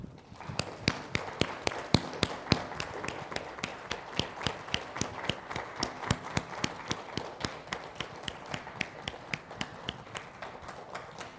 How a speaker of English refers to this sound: I tell you what, folks, let's give the Lord a clap offering for the fact that he has brought us a new pastor and we're starting a new era.